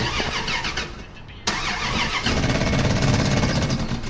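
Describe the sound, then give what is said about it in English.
An old car engine is turned over, cranking over and over with a rapid, rhythmic churning, pausing at a sharp click, then cranking again louder and rougher without catching, with no voices. “Now, can you just turn the engine over, please?”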